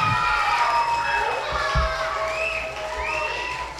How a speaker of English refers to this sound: And so give them a big hand as they go back to their seat.